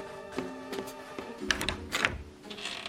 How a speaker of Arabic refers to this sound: أوف، من ذا الذي جاء يقرع الباب هكذا في الصباح الباكر؟